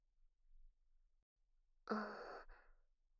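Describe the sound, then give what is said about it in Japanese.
A single soft, airy breath blown out toward the listener, lasting about half a second and trailing off, with quiet before it and no talking. “このまま私にビューってさせて、もうちょっとだけ。うん、吐息。”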